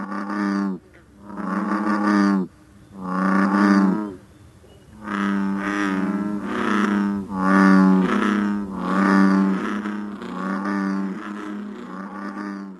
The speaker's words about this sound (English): Some frogs, you may go to a large body of water and hear one or two bullfrogs.